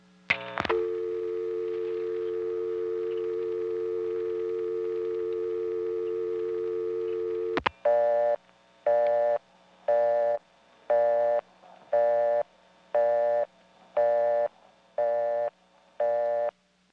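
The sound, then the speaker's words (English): A steady dial tone on a Touchtone coin phone of the 756 office in Greenville hums for about seven seconds as it is left to time out, then cuts off with a click into a rapid, evenly pulsed off-hook warning tone that beeps repeatedly until the end. “First, I'm going to let the dial tone time out.”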